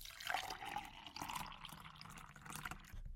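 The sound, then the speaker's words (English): Water is poured into a glass in a steady, quiet trickle lasting a few seconds, with a faint rising gurgle as it fills, with no voices. “Here, take some water.”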